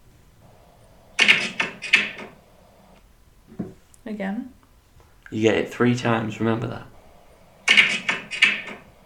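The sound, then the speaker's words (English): A fist punches a wooden plank in two quick bursts of sharp, hollow knocks, several hits in each. A person talks briefly in the pause between them. “No, I punched that plank of wood.”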